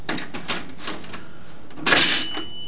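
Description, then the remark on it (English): A cash register rings up a sale: a run of quick mechanical key clacks, then a louder clatter as the drawer opens and a bright bell tone rings out. “You gonna ring it up in the cash register?”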